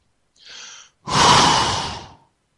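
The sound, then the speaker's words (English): A deep, audible breath during a guided breathing exercise: a softer, airy inhale followed by a longer, louder, rushing exhale, with no talking. “Keep the breathing, keep the breath going.”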